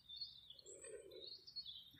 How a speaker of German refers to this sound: Um dich herum hörst du die Vögel zwitschern, die in den Bäumen sitzen.